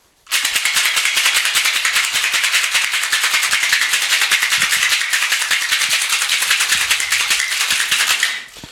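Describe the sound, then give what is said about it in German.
A cocktail shaker holding a cocktail made with bitters and orange bitters is shaken hard for about eight seconds, ice rattling in a fast, steady, bright clatter that starts and stops abruptly, with no talking over it. “Ich schüttel das mal kurz.”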